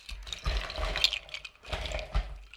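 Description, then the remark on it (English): Thick Lava Craft Bloody Mary mix is poured into a glass in two gurgling, splashing bursts separated by a brief pause, with no talking. “How about we start pouring?”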